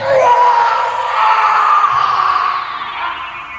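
A loud, hoarse, drawn-out scream rings out through the silence of the night, continuing for several seconds, raw and strained, fading slightly toward the end with no talking around it.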